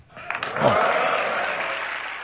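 Modest audience applause after a speech by the highest-ranking US military officer starts after a short moment and holds as a steady, even wash of clapping, moderately loud and never building into a big roar.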